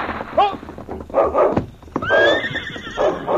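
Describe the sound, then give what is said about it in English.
Sergeant Preston's horse, being urged into a faster pace, whinnies loudly twice, each call a rising, wavering squeal, while hooves clip-clop steadily underneath at a quick pace. “Just as Sergeant Preston urged his horse into a faster pace, a distant rifle shot rang out.”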